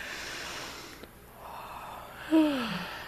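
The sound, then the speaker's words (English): A long, airy deep yawning breath drawn in during a yoga breathing exercise, ending in a brief voiced yawn-like groan that slides downward in pitch. No talking. “So initially, inhale in with that deep yawning breath.”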